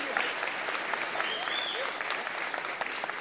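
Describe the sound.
Steady applause from an audience, a dense wash of many hands clapping at an even level throughout, with faint crowd voices mixed in beneath.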